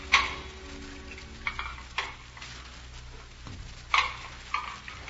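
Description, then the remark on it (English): Dishes being washed: a few sharp clinks and clatters of crockery at irregular moments over a steady, hissing wash of background noise, with no voices. “studying and taking care of the baby while I caught up with the dishes.”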